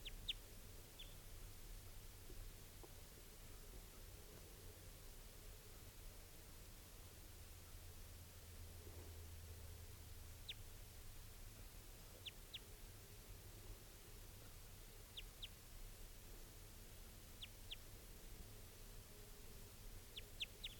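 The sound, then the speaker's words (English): Calls of a wild male bird of call type 2: brief, high chirps that often come in quick pairs, scattered across the stretch and fairly faint against a steady hiss and low background rumble, with no one talking. “So recording, here's that same type 2 bird, wild bird.”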